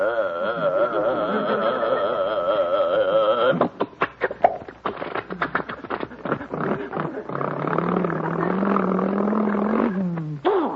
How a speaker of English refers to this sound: And boarding our sturdy little bus, we wait as our burly driver starts up the powerful engine.